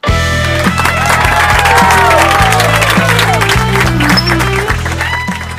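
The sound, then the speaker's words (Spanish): An audience applauds to welcome a guest from the Faculty of Exact Sciences, while voices cheer and shout over a loud music track with a thumping bass line. The clapping stays dense and continuous for the whole stretch. “Aplausos, aplausos para recibir”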